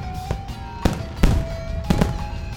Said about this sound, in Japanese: で特に24日クリスマスイブの夕方には恒例の花火大会も行われます。女川の港に聖なる夜を祝って、そして鎮魂の祈りを込めて3000発の花火が上がります、 ね、クリスマスソングを BGM に上がる花火っていうのがねまたいいんですよね